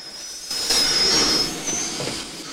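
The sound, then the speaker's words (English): A steam train brakes to a halt, smoke billowing from its funnel: a sustained high metallic squeal of wheels riding over a broad hissing rumble that swells and then eases off, with no voices. “The train draws to a halt, smoke billowing from its funnel.”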